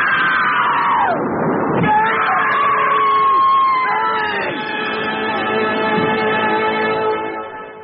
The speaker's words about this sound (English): It's a plane. It's right outside the building.